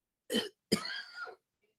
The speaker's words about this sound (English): Excuse me, folks. I have to stop to cough.